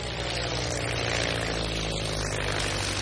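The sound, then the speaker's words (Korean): A propeller airplane drones steadily overhead while spraying the pesticide DDT to kill mosquitoes over a seaside bird sanctuary, its engine a loud, continuous buzzing roar with a deep throbbing low end that holds throughout, with no voices. “당국은 여러 해 전부터 모기를 죽이기 위해 비행기로 그곳에 DDT를 뿌리고 있었습니다.”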